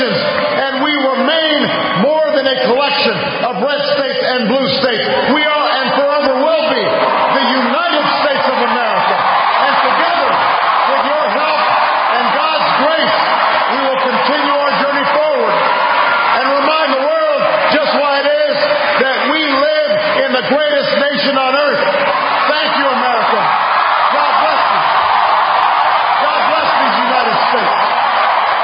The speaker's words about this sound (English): All right, so all these people cheering for Barack Obama being reelected, listening to that rhetoric sounds a lot like things were 4 years ago.